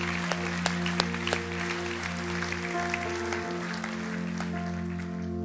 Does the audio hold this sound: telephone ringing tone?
no